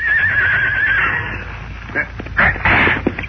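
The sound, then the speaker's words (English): A horse ridden by an escort behind a prisoner wagon lets out a loud, wavering whinny lasting about a second, followed by a few short noisy bursts like snorting and shuffling. “I ride my horse and stay behind the wagon.”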